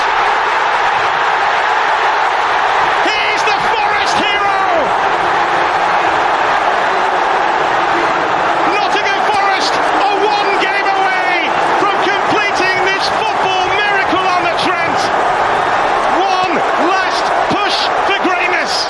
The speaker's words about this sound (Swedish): Men frågan är om gårdagskvällens största jubel ändå inte var på City Ground. Där Nottingham Forest vann på straffar mot Sheffield United och är klart för final om en plats till Premier League.